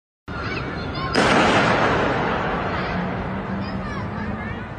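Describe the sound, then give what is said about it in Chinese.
A single loud gunshot cracks out over a background of crowd murmur and chatter at the residential compound in China where actor Yu Menglong fell from a building, recorded by a resident. Its sharp report leaves a lingering echo that slowly fades. “日前更有网友抄出疑似于朦胧堕楼小区居民拍摄的影片，录到现场混杂的声音，有枪击，很清晰的枪声，疑似目击者被枪击。”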